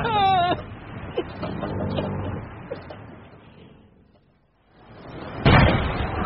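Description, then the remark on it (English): Heavy booms of naval cannon fire: a loud blast at the start, a few scattered thuds and a rumbling lull that fades almost to silence, then another sharp, powerful report near the end. “How can a man so a neat flap with all this jarring bloody gunfire?”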